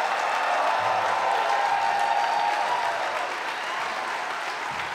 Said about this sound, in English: A big round of applause for Battaglia, New York!